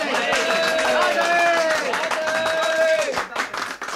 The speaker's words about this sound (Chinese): 我哋刚才已经提名浙江省代表汤以和担任临时议会议长， 广东代表黄重卫担任副议长，请各位鼓掌表决。